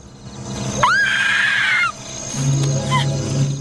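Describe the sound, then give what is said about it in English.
A woman, horrified at finding a partially buried hand in the earth, lets out one loud, piercing scream that rises sharply and holds for about a second before breaking off, leaving a low background rumble. “Horrified, she jumps to her feet. Emily screams.”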